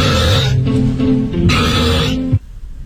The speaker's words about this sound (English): That's a burp. Like an animal, actually. It does kind of sound like a barn animal, hey? Like, that's a goat right there. Oh my gosh, the more you hear it, the grosser it sounds. It's really gross. 112 decibels, by the way.